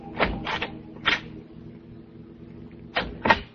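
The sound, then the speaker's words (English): A house door being opened at night as people let themselves in: a few short latch clicks and clunks, then a quiet pause before two more knocks of the door moving. No one speaks. “Driving up to his house in the dark. Letting ourselves in.”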